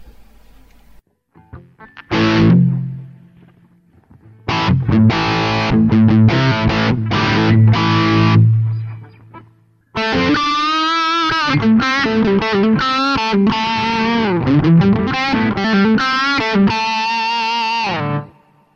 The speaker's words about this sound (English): So let's take that basic distorted sound with a tweaked EQ, add a little bit of spring reverb and hear what that sounds like.